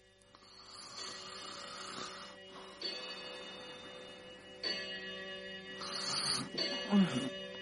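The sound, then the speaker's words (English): A clock strikes eleven, its strikes ringing out one after another at a slow, steady pace, each tone lingering and overlapping the next. “Oh, 11 o'clock.”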